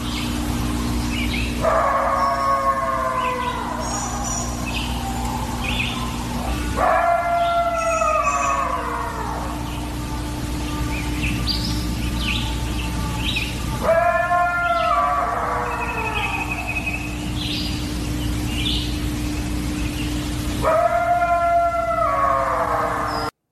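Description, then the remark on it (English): A creature's long howl rises and falls four times, spaced several seconds apart, each call loud and harmonically rich over a constant low droning hum. No one speaks. “I'm going Dog Man again. It is.”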